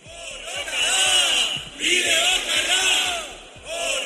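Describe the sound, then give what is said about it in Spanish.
A crowd of radicals in the vicinity of Mondragón in the Basque Country shouts the Spanish protest chant "La lucha es el camino" in unison at arriving victims, loud and sustained, with the phrase repeating in bursts separated by brief pauses for breath. “La lucha es el camino, es lo que gritaban en las inmediaciones de Mondragón para, bueno, recibir con ese lema, la lucha es el camino, a las víctimas que habían acudido hasta ese lugar.”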